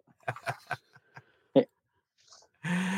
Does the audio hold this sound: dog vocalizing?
yes